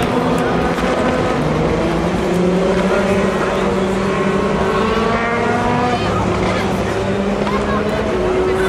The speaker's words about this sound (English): the second Valkyrie, another Porsche, and the LMP2s come through. All the LMP2s with their Gibson engines.